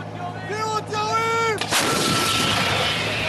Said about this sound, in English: They yelled warning, firing before the gun belted fire and smoke and sent the explosive hurtling toward a target in the Gaza Strip.